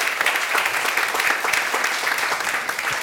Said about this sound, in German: Okay, vielen Dank, nicht schlecht dafür, dass du keine Konkurrenzbeobachtung machst, hat das einen Applaus verdient, ja, weil du hast wirklich schnell und alles konkret getroffen.